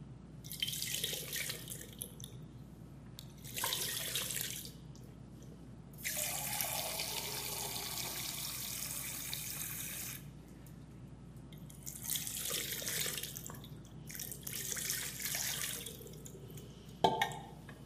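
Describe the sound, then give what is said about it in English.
Water is poured from a cup over a fully exposed hand for ritual handwashing, in several separate splashing bursts with short pauses and faint drips between pours. No one speaks. “Your hand is totally exposed to the water. And you pour it twice.”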